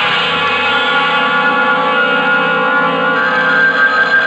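A telephone rings loudly in one unbroken, bright, metallic trill that carries steadily for several seconds with no pauses and no voices.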